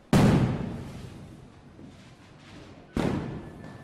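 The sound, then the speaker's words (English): Two loud fireworks bursts during Fourth of July celebrations in the United States, several seconds apart, each a sharp booming bang that rumbles and fades into a lingering echo, with no voices. “Lighting fireworks is a long-standing tradition on Independence Day, but most people find the colors and sounds of fireworks to be beautiful.”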